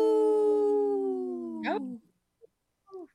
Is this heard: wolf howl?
yes